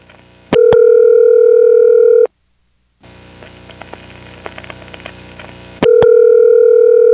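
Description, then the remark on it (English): A steady telephone line tone cuts off, then a stretch of faint hiss carries a run of irregular clicks and pulses as an NX1 telephone switch routes the call to the phone line, before the tone returns. “Let's take a good listen to those pulsing noises it made setting up the route to the phone line.”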